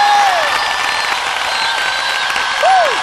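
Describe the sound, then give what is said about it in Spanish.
A large stadium crowd applauds loudly and steadily, a dense wash of clapping mixed with cheers, with a couple of sliding whistles cutting through at the start and the end. “Y quisiera escuchar ese aplauso fuerte.”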